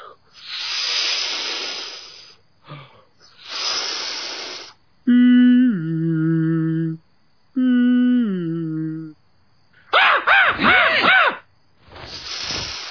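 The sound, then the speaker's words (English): Someone imitates ocean waves with their voice: long breathy shushing hisses alternating with sung, downward-gliding tones and a warbling vocal swoop, then one more hiss at the end. “I'll just make some soothing ocean sounds for you.”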